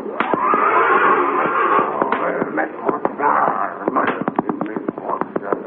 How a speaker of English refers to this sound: When he arrived, he found Indian Joe making another attempt to subdue Lightning Jim's big black horse, Thunder.